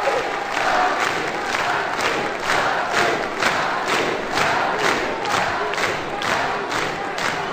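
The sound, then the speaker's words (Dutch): A studio audience, including a football club, shouts and cheers loudly and continuously, with rhythmic pulses of chanting roughly every half second, like a rousing chant sustained throughout. “En hier is, en nou heeft u toch zin om te schreeuwen en te roepen.”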